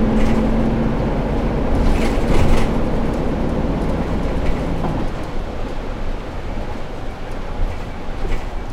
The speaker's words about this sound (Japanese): このままバス左へ曲がります。雨の中お待たせいたしました。また一日お疲れ様でした。本日も京成バスの夏美線をご利用いただきましてありがとうございます。